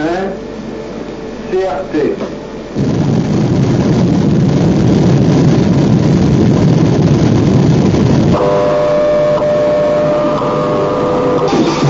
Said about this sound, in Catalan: D'aquesta manera sona una explosió nuclear subterrània.